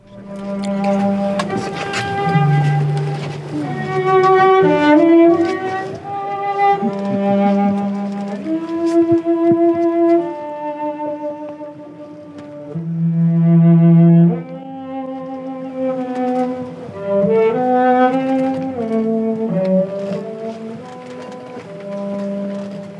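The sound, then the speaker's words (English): A musician plays a solo cello aboard the voyaging canoe Hokulea in Hawaii: a slow, lyrical melody of long bowed notes that swell and fade, fairly loud, with a faint wash of background noise and no talking. “In it, … plays the cello aboard the voyaging canoe Hokulea, hoping to communicate with whales.”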